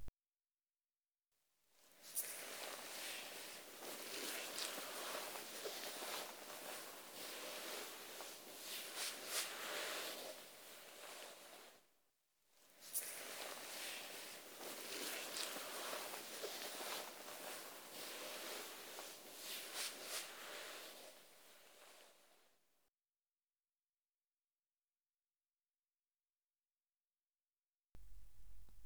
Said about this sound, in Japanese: よし、泡洗浄はこのぐらいかな。泡を柔らかなタオルで拭き取っていきますね。